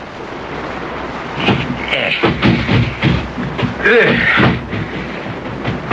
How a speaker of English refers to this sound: That is a storm that I should not like to have to been out in. I mean, I don't see how any human being can ever have survived such a...